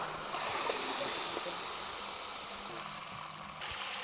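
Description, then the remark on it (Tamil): Four kilograms of DAP fertilizer granules, the amount needed per acre, pour into 10 liters of water, making a steady rushing and hissing sound for about four seconds, with faint sloshing as the mixture is stirred. “இந்த 4 kilo DAP 10 litre தண்ணியில் இப்போ நம்ம போட்டுறோம்.”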